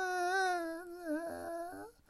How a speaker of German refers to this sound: Doch zunächst hörte nur das Wimmern eines Kindes.